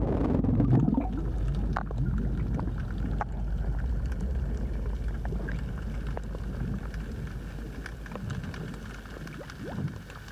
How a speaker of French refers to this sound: Et pourtant, si nous mettons la tête sous l'eau, nous discernons souvent une sorte de crépitement dont l'intensité varie selon les mers.